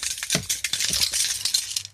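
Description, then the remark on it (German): A keychain with a heavy brass pendant jingles steadily for about two seconds, bright metallic clinks and rattles with a few heavier knocks mixed in and no talking. “Ich habe auch einen Schlüsselbund. Und du, ich habe da so einen Messinganhänger. Hörst du das?”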